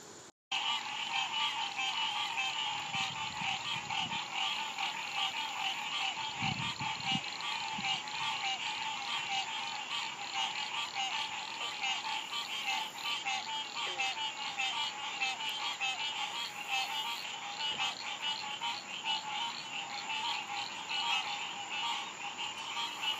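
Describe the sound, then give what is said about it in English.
A dense chorus of many kinds of frogs croaking continuously, many overlapping calls forming a steady, loud pulsing drone with no gaps, like a busy pond at night. “Frogs unite!”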